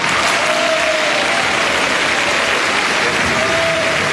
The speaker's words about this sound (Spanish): Escuchamos el aplauso del Salón de Honor a medida que el presidente de la República, José Antonio Kast, entra en su día 82 de mandato al Salón de Honor en la primera cuenta pública presidencial de su periodo.